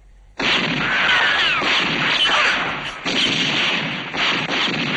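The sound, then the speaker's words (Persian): A loud, sustained barrage of gunfire erupts suddenly and continues almost without pause, dense overlapping shots and crackling blasts filling the whole stretch, with no voices. “تیر اندازی نکنین، دارم میام بیرون.”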